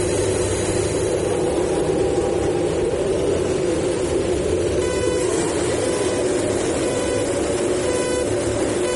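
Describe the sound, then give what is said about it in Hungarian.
A dense, continuous roar of Formula 1 car engines at the start of the Hungarian Grand Prix, the 12th race of the season, loud and sustained, with high revving whines rising above the din partway through and again near the end. “Kedves nézőink, kapcsolják be biztonsági öveiket, hiszen néhány másodperc múlva elrajtol a szezon 12. futama, a Forma 1-es Magyar Nagydíj.”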